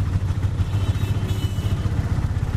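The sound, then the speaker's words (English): A steady motorcycle engine rumble with a rapid throbbing pulse amid traffic noise, holding a constant loud level throughout with no voices. “Or the only place had a background of traffic sound?”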